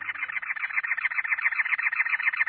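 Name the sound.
cactus wren singing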